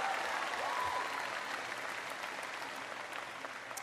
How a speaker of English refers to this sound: There they are, right there. Give mom and dad a big round of applause.